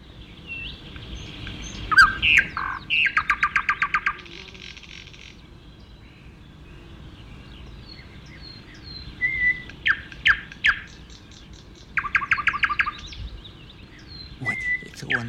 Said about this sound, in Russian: И я лапы расставил от удивления, смотрите как. Угу. Соловья, наверное, увидел или услышал.